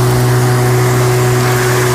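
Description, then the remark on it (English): A small lawnmower engine drones steadily with a constant low hum and a strong, unwavering tone as the lawn is mowed, running at even speed for the whole stretch, with no voices. “I really have an embarrassing sounding lawnmower, don't I?”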